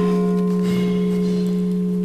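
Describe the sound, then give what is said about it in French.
The church bell of Saint-Cyrien rings out with a sustained, resonant hum of layered tones, fairly loud and steady throughout, with no voices present. “Ah, nous allons laisser passer la cloche, parce que nous n'avons pas les moyens de faire autrement, mais un très joli son, la cloche de Saint-Cyrien.”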